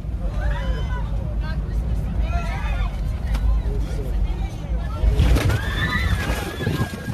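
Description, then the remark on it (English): A jet cabin roars and rattles through severe turbulence, a loud steady rumble with jolts and clatter as a cart flips over and spills hot water, while people cry out and shout in alarm throughout. “I can't imagine what it would be like to feel that jet move like that.”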